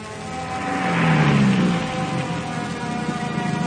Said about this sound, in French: Hey, on dirait qu'il y a un bruit de voiture. Pourtant, personne ne vient ici. T'as entendu une voiture? Je te dis que j'ai entendu une voiture à distance. Et elle se rapproche.